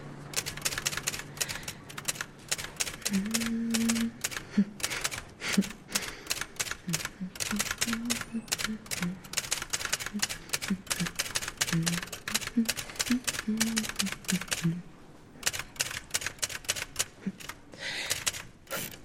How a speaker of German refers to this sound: Da ist eine Schreibmaschine. Und zeigen Sie mal, was Sie können.